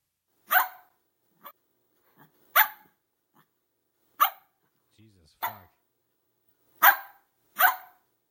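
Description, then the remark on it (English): A recorded dog bark played by a smart speaker's bark-like-a-dog skill: sharp, loud yelps, about six or seven of them spaced irregularly with short pauses between, clear with no one talking over them. “I do have a skill you might like. It's called bark like a dog.”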